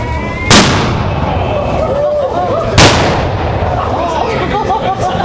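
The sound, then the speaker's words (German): Two loud ceremonial cannon salute shots, fired on a Friday afternoon to open the 17th Gildefest in Aschersleben, boom out about two seconds apart, each a sharp blast with a rolling echo, over a steady murmur of crowd chatter. “Mit zwei kräftigen Böllerschüssen wurde am Freitagnachmittag das 17. Gildefest offiziell eingeläutet.”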